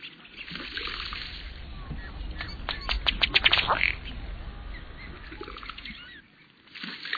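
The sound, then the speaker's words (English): A male ruddy duck's courtship display: as it runs across the water with rapidly beating wings, a run of quick pattering feet taps on water speeds up into a burst, ending in a short bubbly croak, set against a low, steady outdoor rumble. “Stay by the water, and you'll hear this motorboat alternating with the bubbling display again and again.”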